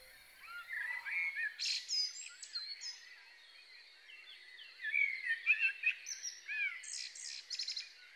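A common blackbird's song, played from an iPod in a hospice, is continuous and varied, with fluting, warbling phrases and occasional sharp high chirps. It is clear, rises in intensity midway, and has no voices.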